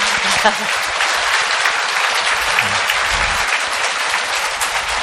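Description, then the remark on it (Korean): A church audience breaks into sustained applause welcoming a nun who came from Busan for the church's ninth anniversary, a dense, even wash of many hands clapping that holds steady at a fairly loud level for the whole stretch, with no voices standing out. “우리 수녀님께 한번 환영의 박수를 부탁드립니다.”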